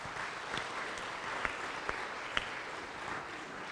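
A crowd claps steadily, a dense wash of applause from many hands with a few sharper, louder claps standing out, moderately distant and sustained throughout with no one speaking.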